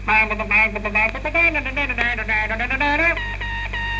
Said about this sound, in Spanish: Así pues, empezamos. ¡Sintonía!